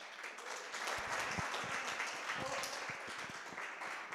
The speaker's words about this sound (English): A big round of applause for Flora.